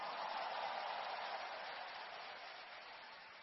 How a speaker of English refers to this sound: Give the Lord a big clap and a shout of praise.